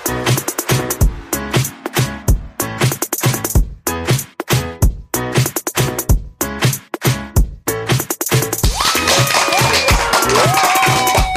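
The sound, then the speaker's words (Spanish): Rhythmic music with sharp percussive hits gives way, over the last few seconds, to a dense wash of steady applause, with some high cheering or whistles rising above it. “Hola, ¿qué tal con esa energía positiva, esos aplausos?”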